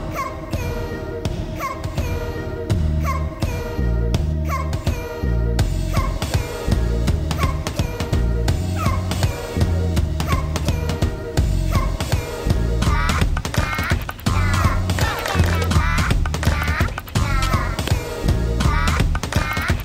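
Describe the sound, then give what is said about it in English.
The theme song of the Cuckoo Bananas Variety Hour plays loud and steady for about twenty seconds, with a bouncy bass line, bright layered melody and a busy, driving rhythm, and no voices. “As you may have guessed from that introduction, before the theme song, of course, today's episode is all about food!”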